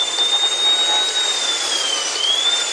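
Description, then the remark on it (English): A dentist drill whirs continuously with a thin, high-pitched whine that dips slightly in pitch, over a hissy background, with no voices. “Dentist drill.”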